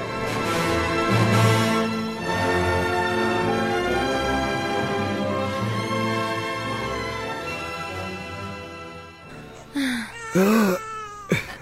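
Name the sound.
newborn baby crying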